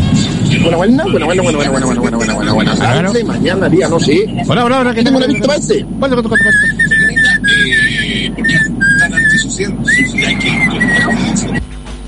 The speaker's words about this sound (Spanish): Bueno, o sea, estamos cambiando el concurso. Esto se llama Adivina el silbido.